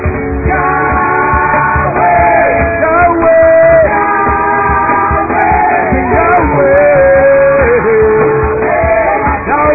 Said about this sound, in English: You're not shouting for nothing. Yeah. Yeah. Yeah. Hey. Hey. You're not shouting for nothing. You're the victorious one.